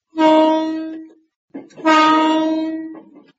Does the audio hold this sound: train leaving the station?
yes